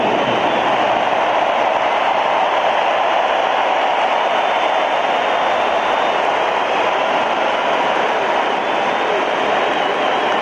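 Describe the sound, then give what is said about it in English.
A large crowd of Saints fans applauds and cheers for Archie Manning as his place in the Ring of Honor is unveiled, in a dense, steady roar that stays loud and unbroken for the whole stretch, with no clear pauses or individual voices standing out. “Saints fans, let's give a round of applause for Archie Manning as we now unveil his place in the Ring of Honor.”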